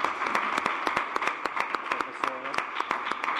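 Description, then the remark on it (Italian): An audience applauds the school principal, a dense, steady patter of many hands clapping at fairly even loudness, with a brief voice rising through the clapping partway in. “Quindi grazie al preside, farei un applauso al preside perché se lo merita.”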